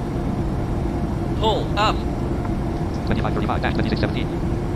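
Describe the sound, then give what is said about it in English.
A steady, loud airplane engine roar drones throughout in a flight simulator as the plane goes into a nosedive, with brief rising tonal chirps and a burst of voice-like cockpit warnings calling to pull up over the rumble near the end. “Freaking plane just did a damn nosedive.”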